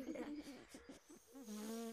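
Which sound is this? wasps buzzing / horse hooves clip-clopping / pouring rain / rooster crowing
wasps buzzing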